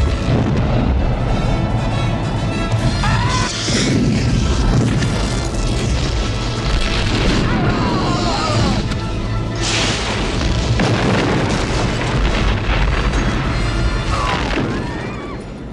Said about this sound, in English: But they found a way to do it, and for them it was really important to see, like, the phasers hitting the ships and the explosions inside.